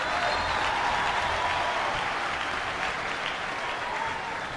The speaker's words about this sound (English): Come on, if you can't clap hands, you're a witch.